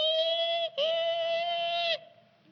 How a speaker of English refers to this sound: I knew what it was. I knew that my pig had given birth to my piglets. There they are. 3 months, 3 weeks, 3 days, and about 3 hours. She gave birth to 11 little piglets.